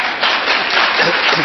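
An audience applauds in a dense, continuous wash of many hands clapping, holding fairly loud and even from start to finish with no single claps standing out.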